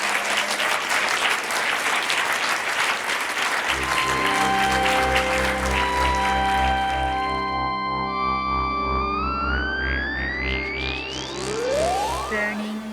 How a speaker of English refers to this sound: Okay, so thank you so much. Maybe a round of applause for all of our guests.